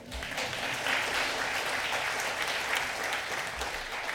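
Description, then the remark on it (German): An audience at a church service applauds steadily, dense overlapping clapping at an even, fairly loud level throughout, with no voices on top. “Das ist jetzt der Applaus.”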